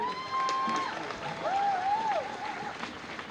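Steady applause from an audience fills the whole stretch, a dense patter of many hands clapping at an even level, with a couple of thin tonal whistles rising briefly through it.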